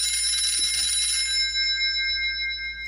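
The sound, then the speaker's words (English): An old-style telephone bell rings for an incoming call from Mayor Ford of Toronto, in a rapid, bright metallic trill that runs for over a second, then fades into a lingering, shimmering ring. No voices are heard. “How I detest getting his phone calls.”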